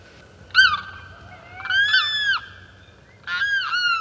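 Three loud, wailing limpkin cries from the southern swamplands, recorded by Arthur Allen, each a harsh, drawn-out screech with a slight rise and fall. They come in separate bursts with short pauses, and no voices are heard.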